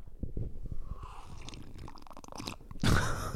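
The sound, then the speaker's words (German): Someone sips tea, with a run of soft, wet gulping and swallowing sounds followed by a louder slurp near the end. No one speaks. “Ja, ich muss mal kurz einen Schluck trinken. Trink mal noch einen Schluck von deinem geilen Tee.”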